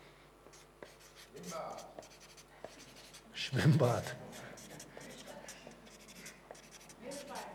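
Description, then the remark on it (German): A pen scratches across a sheet of paper in short strokes as words are written down, reaching the bottom of the sheet, with a brief spoken word breaking in midway before the quiet scribbling carries on. “Also ich höre jetzt einfach auf, ich bin unten angekommen am Blatt Papier und ich glaube, wir könnten eine ganze Menge weiter aufschreiben.”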